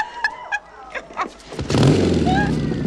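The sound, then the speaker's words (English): Brief vocal sounds give way to an approaching motorcycle engine that surges in loud, a heavy rumbling roar that holds steady to the end. “He hears the motorcycle and quickly lowers the cover, leaving his fingers exposed.”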